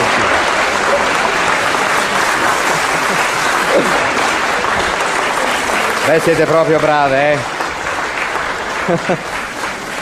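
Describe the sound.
Loud, continuous applause from a large audience fills the room, a dense wash of clapping that carries on throughout while a man's voice speaks over it near the end.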